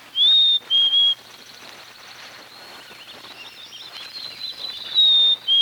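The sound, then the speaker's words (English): A black-capped chickadee sings its clear, whistled two-note spring song, the second note slightly lower, then begins again after a pause. Faint twittering fills the gap, and no one speaks. “My favorite sound of midwinter is the spring song of the black-capped chickadee.”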